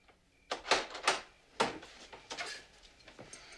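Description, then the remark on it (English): A lock being fastened on a back door: a quick series of sharp metallic clicks and clacks, several in a row with brief pauses, then a softer rattle trailing off. “goes to the back door and fastens a lock.”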